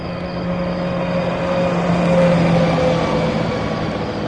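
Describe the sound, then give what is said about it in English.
A road train truck rumbles past on open Highway 32 between Wilcannia and Cobar late at night, its steady engine drone swelling and fading slightly over a few seconds, with broad road noise and no voices. “A hitchhiker on his way to Tamworth shrugs his shoulders as yet another truck passes him by.”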